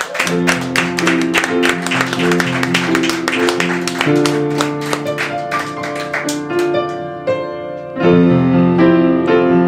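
An audience claps and cheers for two participants in a dense, steady burst over a loud, sustained musical jingle; the clapping thins out near the end as the music carries on alone.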